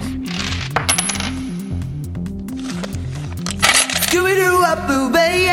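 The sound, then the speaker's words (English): Coins clatter and clink in a rapid, uneven cascade down chute number three in a game show, some of them sticking, over a bouncy electronic melody. Toward the end, a voice briefly scat-sings wordless notes above the jingling. “Yeah, I think, well, we got the cow out, but, I mean, it's carnage in there, and some of the coins are now sticking. Right, can we light up chute number three, please?”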